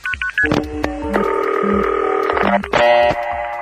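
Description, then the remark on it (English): Telephone signaling tones between the New York and Los Angeles exchanges: a few quick beeps, then a steady, buzzy chord of line tones that shifts pitch midway and switches abruptly to another tone set near the end, loud and clear with no voices. “And then LA drops its tone, and the New York and LA machines talk to each other.”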